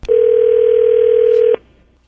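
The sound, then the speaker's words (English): A telephone ringback tone: one steady, mid-pitched electronic hum held for about a second and a half, then cutting off abruptly into faint line hiss. No voices. “Just hold on 1 second. We're going to call him up.”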